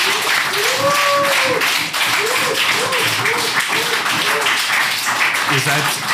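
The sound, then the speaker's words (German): Sustained audience applause at a community gathering in Bottrop, a dense, steady crackle of many hands clapping for several seconds, with a voice speaking over it throughout. “Und dafür nochmal ein richtig toller Applaus.”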